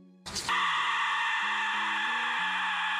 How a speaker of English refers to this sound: So not only like Central America, they used like we see the death whistle and things like that. Mm-hmm. Like, you ever heard the death whistle? No, it's insane, bro. The death whistle. Gosh, it's great.